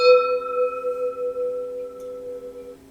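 gong strike

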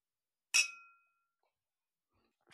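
glasses clinking

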